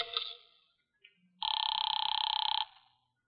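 A telephone bell rings, one loud, rapidly rattling burst lasting about a second, following a brief fading clang at the start. Nobody speaks.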